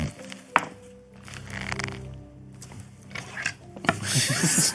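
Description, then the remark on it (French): Dice are rolled for a body reconfiguration skill check needing 70, coming up 69, onto a wooden surface: a sharp click early on, scattered rubbing taps, and a louder rattling clatter near the end, over a low background hum. “Fais ton jet en reconfiguration corporelle.”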